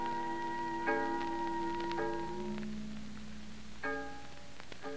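A fog bell on the shore rings with three metallic strikes in heavy midday fog, heard from a boat off the Carnarvon County shore; each strike leaves a long, shimmering, bell-like tone that hangs and slowly fades, over a steady low rumble. No one speaks.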